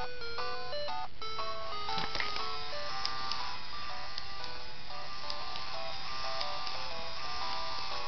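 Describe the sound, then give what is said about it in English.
A stream of bright electronic beeps forms a chiptune-like melody, steady and fairly loud, with a faint mechanical whir underneath as a Game Boy printer runs. No one speaks. “Get the cool music.”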